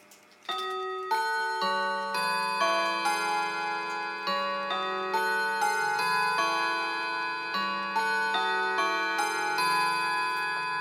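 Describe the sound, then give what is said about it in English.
A clock chimes quarter to the hour, playing a steady melody of struck, bell-like tones that ring and overlap, each note sustaining into the next at an even, moderate loudness with no voices. “I'll take you through the whole chime on this. It's a beautiful chime, this. Here we go, quarter to.”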